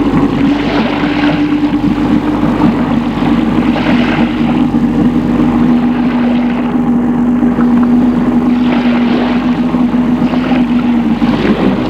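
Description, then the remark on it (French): A boat's engine, started because there is not enough wind, drones steadily as the boat heads out of port to sea under a blue sky on a calm sea. It is a loud, unbroken low hum with a constant pitch and faint rattling overtones, with no voices. “Comme il n'y a pas assez de vent, ils ont mis le moteur.”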